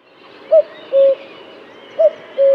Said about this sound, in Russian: А кукушка на суку дважды повторит «ку-ку».